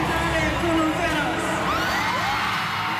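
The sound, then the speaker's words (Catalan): A huge crowd at the Bernabéu stadium in Madrid screams and cheers continuously as a pop star appears on stage by surprise in hot weather, a dense wall of high-pitched shrieks and whoops with rising and falling yells cutting through, loud and sustained throughout. “el Bernabéu s'ha enfonsat entre crits, plors i algun que altre mareig.”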